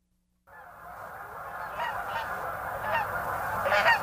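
geese honking

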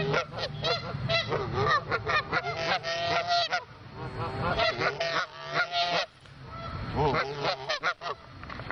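canada goose honking

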